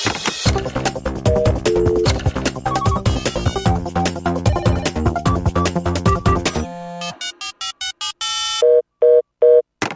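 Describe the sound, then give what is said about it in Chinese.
Busy music plays for several seconds and cuts off, then a telephone line rings with short, repeated electronic tone bursts, clear, as a call connects to the Infinite Care hotline (无限关怀热线). “心灵对话正在接通无限关怀热线。”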